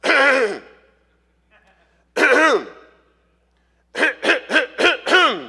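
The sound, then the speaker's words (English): A voice imitates an older man clearing his throat: two drawn-out, gravelly rasps separated by a pause, then a quick run of five short, choppy ahem bursts, fairly loud. “And I imagine in the back of my mind an older gentleman standing off to the left who begins to clear his throat.”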